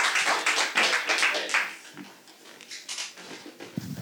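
A short burst of audience applause, many hands clapping densely at first, then thinning into scattered claps that fade over a few seconds. No one speaks.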